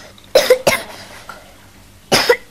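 A child with a cold coughs in a quick pair of harsh bursts, then after a short quiet pause lets out one more cough. No talking.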